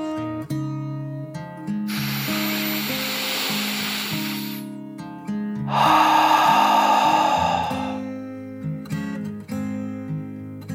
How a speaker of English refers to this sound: The little sea otter took another deep dragon breath in and out.